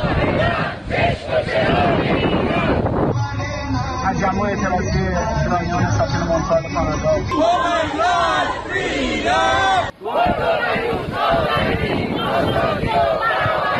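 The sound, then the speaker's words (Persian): A large crowd of Iranians at a memorial rally in a city in Europe or Canada, honoring victims killed in nationwide protests and holding pictures of them, chants loudly in unison, voices rising and falling in rhythmic shouted slogans, with a brief break before the chanting surges back in a dense, continuous roar. “ایرانیان در شهرهای مختلف اروپا و کانادا با برگزاری تجمعاتی یاد قربانیان را گرامی داشتند.”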